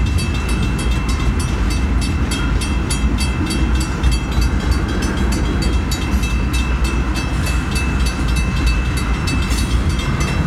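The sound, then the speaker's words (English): A train rolls past at a railroad crossing, a loud, steady rumble with rhythmic wheel clatter and a faint high whine running through the whole stretch, with no voices. “It's like you can move down close to the train.”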